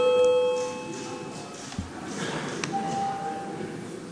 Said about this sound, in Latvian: Lūdzu, zvanu, balsosim par 11. Juridiskā biroja iesniegto priekšlikumu.